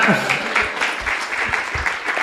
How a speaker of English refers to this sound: Yeah, thank you. You can give her a round of applause also.